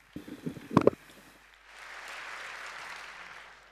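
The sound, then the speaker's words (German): A brief voice opens, then an audience breaks into steady applause to welcome the presenters of a talk on how honeypots can be deceived. A dense wash of clapping swells and holds at a moderate level until the end. “Also einen warmen Applaus bitte.”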